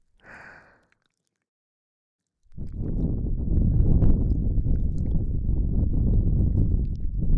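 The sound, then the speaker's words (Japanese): A brief breathy puff, a short pause, then a long, steady blow of breath into the ear, straight into the microphone, producing a loud, low, rumbling roar that lasts about five seconds, with no talking. “耳に息を。もう一度。”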